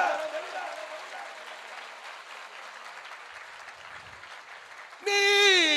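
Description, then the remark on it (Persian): A large audience in Tehran claps steadily in a dense, continuous wash of applause for about five seconds at a poetry recitation, then a loud voice cuts in over the fading clapping at the end. “بچه ها تهران کف بزنم ببینم.”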